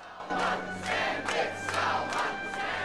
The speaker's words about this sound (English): A supportive crowd.